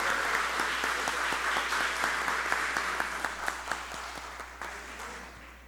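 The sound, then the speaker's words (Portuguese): At a city council session, a crowd applauds a woman honored with a motion, dense steady clapping, fairly loud at first, with a few sharper individual claps standing out as it gradually tapers off over about six seconds. “desse uma salva de palmas para ela.”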